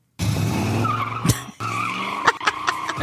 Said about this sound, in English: He does a little spin out. He's in this beautiful convertible. It's either a Corvette or